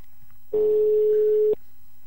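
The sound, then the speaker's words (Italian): A single one-second burst of a phone's ringback tone from a grey SIP telephone, a steady mid-pitched beep heard while a call rings through, fairly loud and clear with quiet line hiss before and after. “Abbiamo il telefono, quello grigio della SIP, ve lo ricordate?”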